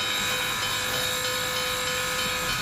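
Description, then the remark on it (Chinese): A steam train's whistle sounds as the train slowly pulls away from the station in Washington, holding a steady, sustained tone over continuous hissing steam and low rumbling, loud throughout, with no voices. “汽笛响起，一股蒸汽冒过，火车徐徐驶离”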